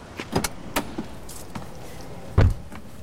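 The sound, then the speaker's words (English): A man in his 40s climbing into a car outside a trade consulting firm in Bratislava, Czechoslovakia, on a blustery summer day in 1987: a few sharp clicks and rustles of a handle and seat, then a solid door thump near the end, with no voices. “A man in his 40s, dark hair, thick mustache, ducks into a car outside Kuba Technica, the trade consulting firm he runs.”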